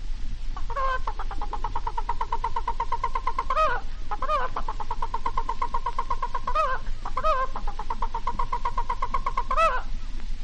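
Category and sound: animal, hen cackling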